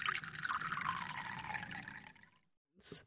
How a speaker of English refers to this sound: Hyun-taek, let me pour you a drink.